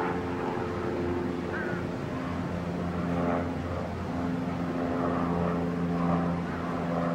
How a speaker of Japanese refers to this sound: Airplane distraction. この飛行機の騒音がして邪魔をしてますか？そんなことも してます。